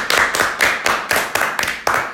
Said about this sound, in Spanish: A la famosa Emma Watson. ¡Un gran aplauso!